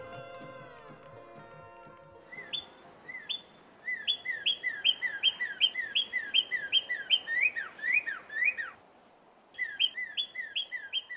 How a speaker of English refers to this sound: And how lucky we are where birdsong greets us first thing each morning. With the earliest suggestion of dawn, the forest behind my house slowly opens into song.